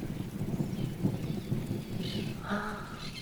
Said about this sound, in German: Es donnert und gewittert. Und alle Tiere freuen sich. Es fallen schon die ersten Tropfen Regen.